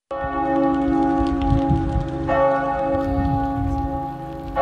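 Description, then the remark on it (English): Large church bells toll across France with rich, sustained ringing tones, marking the exact moment the fire at Notre Dame cathedral started. A second heavy strike blooms over the lingering hum of the first. The sound is loud, resonant and continuous, with no voices. “Church bells tolled across France to mark the exact moment when the fire started at Notre Dame on Monday.”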